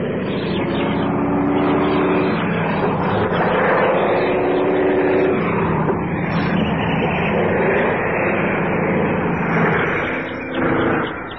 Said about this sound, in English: wonder who that is. Small plane, too. Four-seater.